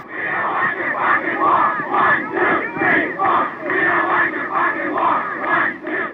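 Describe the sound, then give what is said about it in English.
A large crowd chants together at a protest facing Ohio National Guard troops, voices rising and falling in a steady repeating rhythm, loud and continuous throughout with no single voice standing out. “The chanting went on, and not much more than that initially.”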